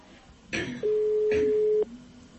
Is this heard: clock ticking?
no